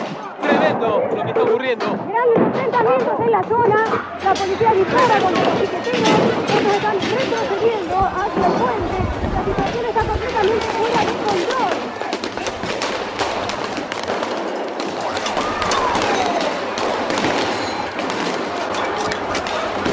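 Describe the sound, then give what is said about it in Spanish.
Repeated sharp gunshot-like bangs and pops ring out amid a loud, chaotic crowd with shouting voices, the reports scattered irregularly throughout: police firing shots and tear gas at piquetero protesters, who retreat toward a bridge. “La policía dispara contra los piqueteros.”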